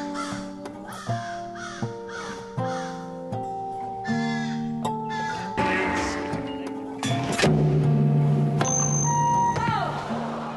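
crow cawing

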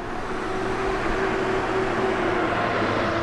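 riding

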